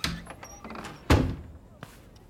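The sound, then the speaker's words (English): A door swings shut with one solid thud that rings briefly, followed moments later by a lighter knock against a quiet background. “Why don't you close the door”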